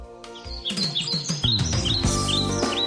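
Birds chirp and sing in quick, bright repeated calls throughout, clear, layered over sustained low tonal notes, with no one talking.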